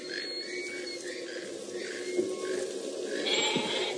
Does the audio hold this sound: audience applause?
no